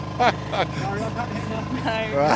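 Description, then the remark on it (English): A boat engine chugs steadily with a low, rhythmic throb on a windy, wet river channel about 10 feet wide, running continuously beneath people talking over it. “He can't hear us because of the engine.”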